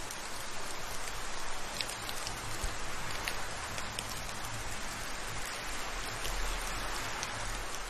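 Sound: rain falling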